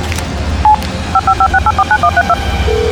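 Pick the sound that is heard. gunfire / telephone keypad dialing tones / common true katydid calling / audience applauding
telephone keypad dialing tones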